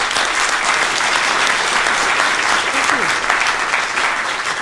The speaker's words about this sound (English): Could we have a welcoming round of applause here for the Congressman?